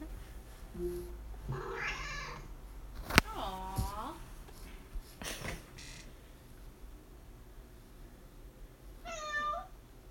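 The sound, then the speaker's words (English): Recorded cat meows play from an Alexa smart speaker when asked: a few drawn-out, tonal mews spaced several seconds apart over a quiet background, with a couple of sharp clicks in between. “But just for the kitty lovers out there, Alexa. Meow, meow.”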